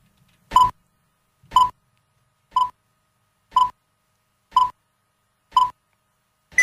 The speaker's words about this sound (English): And I will play the director's beep thing, sound effect.